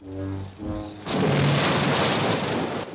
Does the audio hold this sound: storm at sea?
yes